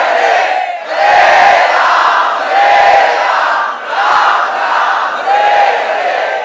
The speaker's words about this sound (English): And the devotees just roared louder the holy name.